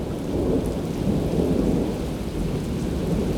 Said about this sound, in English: It's thundering, in fact. Oh, that was lightning. There we go. It's like being back home. See, now that's thunder.